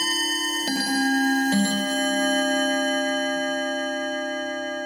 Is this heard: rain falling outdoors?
no